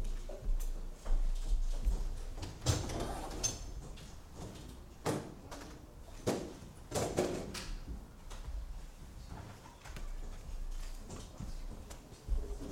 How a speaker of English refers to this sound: do you think you could just open that back door, and could we open those windows a bit wider as well?